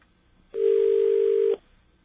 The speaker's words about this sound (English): Or what kind of ring. There's two kinds of rings with this phone number. Very strange.